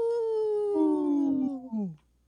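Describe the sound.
Voices howl like wolves on a radio show segment supported by Howling for Wolves, in a long, sustained wail that slowly slides downward in pitch, with a second voice joining partway through before the howls trail off into silence.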